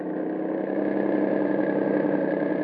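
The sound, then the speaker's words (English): A car engine roars steadily during a chase as the car puts on a burst of speed to overtake another car, a continuous loud droning hum that holds even throughout with no voices over it. “Well, in that case, we'll put on a burst of speed and overhaul them.”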